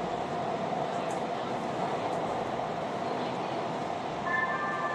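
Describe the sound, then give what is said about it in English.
Steady, loud rumble of a metro train in motion arriving at 7th Street Metro Center station, with a faint high tonal whine emerging near the end as it slows, and murmured voices under the noise. “Now arriving 7th Street Metro Center.”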